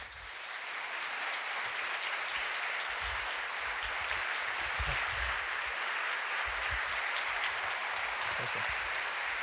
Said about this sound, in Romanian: Tocmai de aceea, primul meu invitat este secretarul general adjunct al NATO, tocmai aterizat în Timișoara, și aș vrea să-l aplaudați pe domnul Mircea Gioană.